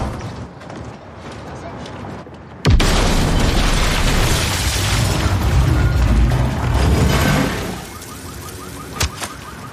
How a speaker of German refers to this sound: Er hat das verhängnisvolle Paket angenommen, in dem eine Bombe war.